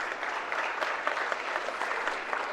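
An audience claps steadily in a dense, continuous wash of many hands, honoring a guest for his service, with no pauses or voices over the applause for the full couple of seconds.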